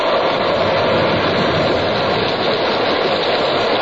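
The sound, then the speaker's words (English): A loud, steady roar of stormy sea and wind in a typhoon as the Pequod struggles, torn of her canvas and with bare poles. A dense rushing wash of noise fills the whole stretch without a break, overwhelming, with no voices. “By evening, the Pequod, torn of her canvas and bare poles, struggled as sky and sea roared.”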